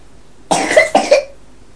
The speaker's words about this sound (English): Get you some medicine, that'll make you feel better. I have to wake you up in the night to give you some medicine. You're coughing all night.